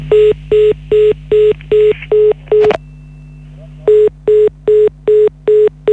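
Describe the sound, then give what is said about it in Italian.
A rapid series of short, evenly spaced telephone keypad beeps over a steady line hum as a dropped call is redialed, briefly interrupted by a click and gap before the quick dialing tones resume. “Niente, sono saltati tutti e due i collegamenti nuovamente.”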